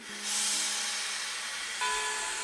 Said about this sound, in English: then boarded a westbound train that would take her over the recently completed transcontinental rail lines to the west coast.